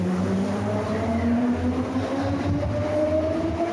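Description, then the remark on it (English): A metro train on Medellín's metro rumbles steadily along the tracks, its low engine drone layered with rising and falling motor whine, continuous and fairly loud throughout with no voices. “made our way on Medellín's metro to what is known as the infamous Comuna 13, or Comuna 13”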